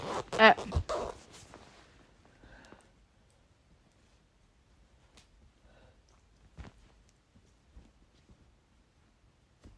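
A clothing zipper rasps loudly in a quick burst of zips at the start, followed by quiet scattered clicks, rustles and faint snuffling sounds as something bites at the zipper.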